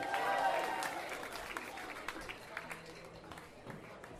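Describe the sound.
An audience cheers and applauds for someone's birthday, a dense wash of clapping with voices whooping at the start that gradually thins into scattered claps and calls over about four seconds.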